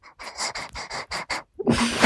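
A dog pants quickly, a steady run of about seven breathy, hissing puffs, followed by a louder, rougher burst of snuffling breath at the end.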